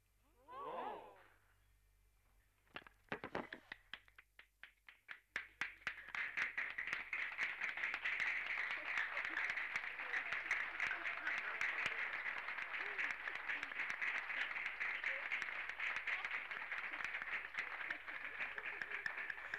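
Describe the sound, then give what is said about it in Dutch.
A brief voice gives way to scattered claps that quickly swell into sustained, dense applause from crowds in seven cafés in Leuven, relayed via microphones and telephones over Radio Scorpio 106 FM and sounding slightly thin. “In Zevenleuvense cafés werd geapplaudisseerd. Via de microfoons, via de telefoons, hoorde u dit applaus over Radio Scorpio 106 FM.”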